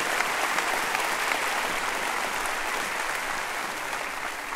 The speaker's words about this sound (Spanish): Quisiera que usted nos diera el gusto de saber si usted está aquí por primera vez y que levante su mano derecha lo más alto que pueda. Denles un buen aplauso a ellos. ¡Bienvenidos!